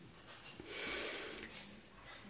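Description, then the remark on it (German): A voice imitates the single loud, snorting gasp of a sleeper's arousal reaction after a breathing stop in sleep apnea, a harsh rush of breath swelling up and fading over about a second, with no talking. “Bis zur Aufweckreaktion. Dann gibt es wieder eine Aufweckreaktion.”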